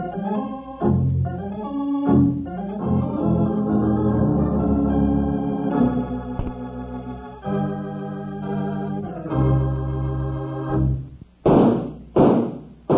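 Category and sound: sound effect, three gunshots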